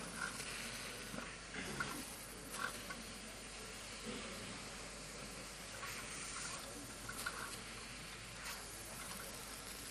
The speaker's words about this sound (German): Wir können mal gucken, ob sich hier schon was tut. Nee, dauert noch, glaube ich. Ich habe das noch nie ausprobiert, ne? Haut mich nicht, wenn das nicht geht. aber es ist auf jeden Fall Steampunk. Und das Wasser kocht auch.